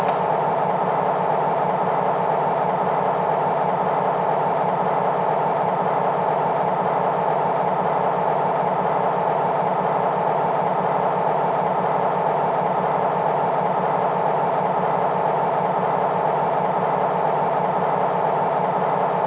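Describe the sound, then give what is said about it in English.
A heavy locomotive engine, Engine ET number 2, idles steadily with a constant low rumble and mechanical hum, loud, holding unchanged throughout with no voices. “Engine ET number 2, the Edgar Thompson plant is ready for pickup.”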